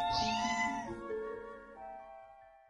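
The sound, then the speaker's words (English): A single drawn-out cat meow, clear, rising bright at the start then sliding down into a long, fading wavering tail with no talking. “Kitty!”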